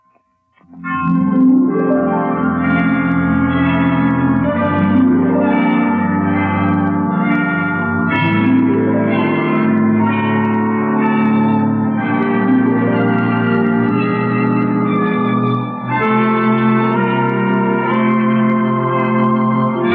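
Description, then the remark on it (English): Hospital clock chimes strike five o'clock, ringing out loud and reverberant, rich overlapping bell tones sustaining and swelling with fresh strikes every several seconds, with no voices. “Well, 5 o'clock. I didn't know the hospital had chimes.”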